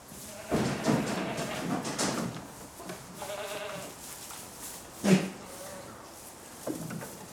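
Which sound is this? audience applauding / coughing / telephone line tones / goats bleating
goats bleating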